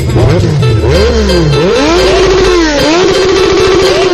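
A loud motorcycle engine revs repeatedly, its pitch rising and falling in uneven surges before settling into a steady, throaty idle-like drone.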